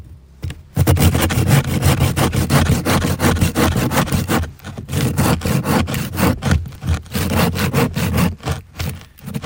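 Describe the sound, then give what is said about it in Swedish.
A hand saw rasps steadily through a dense ice core, a section from roughly 18 meters deep with very high density, in loud, rapid back-and-forth strokes, with a brief pause midway before the sawing resumes; no one speaks. “Det låter ungefär som du såg en planka, tycker jag.”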